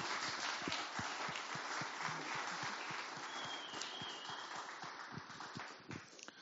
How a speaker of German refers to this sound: Dafür auch nochmal einen Applaus für jeden, der jetzt gekommen ist aus der U21.